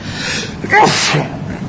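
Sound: sneeze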